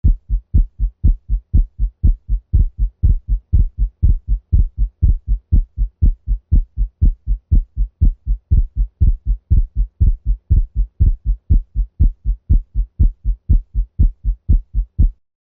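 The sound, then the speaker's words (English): A dog's heartbeat with a split second heart sound (S2), thumping low and steady at a brisk pace of about two beats per second (120 beats per minute), repeating evenly with no voices. “Heartworm disease and subsequent pulmonary hypertension is probably the most common cause of persistent splitting of S2 in dogs.”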